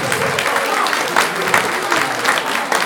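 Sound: audience applause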